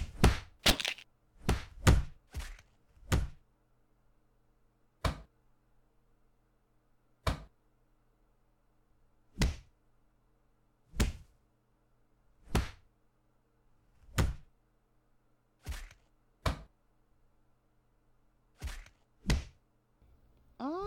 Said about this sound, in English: Moose Knuckle uses his cock like a giant club and defends his lady not so fair with a few quick blows across Axel's face. He's been dick slapped. Dick slapped, I tell ya.